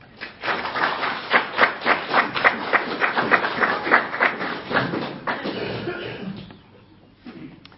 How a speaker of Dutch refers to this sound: Wat ik wilde voorstellen, zullen wij de kinderen voor al het moois wat ze gedaan hebben nog een groot applaus geven.